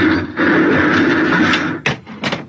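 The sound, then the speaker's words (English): A heavy metal bulkhead door grinds loudly along for a couple of seconds, then slams shut with a sharp boom and a second clanging thud. “Blast, bulkhead. Yeah, we're cut off from the bridge.”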